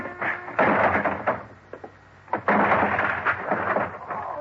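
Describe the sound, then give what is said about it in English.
The locked door of Crothers' little office is forced open with heavy, crashing thuds and rattling, two loud bursts of splintering impact separated by a brief lull, with no voices. “The door of it was locked. Crothers, open up. Crothers. Okay, then I'll open it.”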